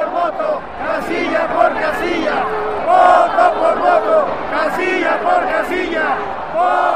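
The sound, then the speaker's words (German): A huge protest crowd of about one million people on the Zócalo in Mexico City shouts and chants together in support of Andrés Manuel López Obrador's demands, in a dense, continuous roar with rising and falling waves of many voices and occasional louder collective surges. “1 Million Menschen folgte vergangenen Sonntag seinem Aufruf und protestierte auf dem Zócalo in Mexiko-Stadt.”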